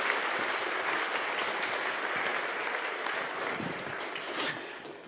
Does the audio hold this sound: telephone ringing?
no